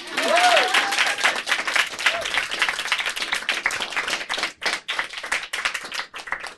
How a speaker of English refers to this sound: So you can clap.